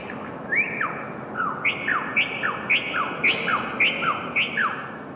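Delicate, melodic birdsong from caged birds in about 120 cages hung over a narrow old laneway in Sydney: a steady run of sliding whistled notes repeating about twice a second, clear, over a soft background hum with no one talking.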